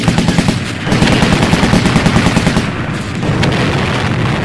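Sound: video game gunfire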